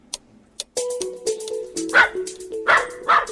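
A dog, a class pet, barks in a classroom several times in quick, uneven succession, loud, with some whiny, yelping tones between the sharper barks and no talking.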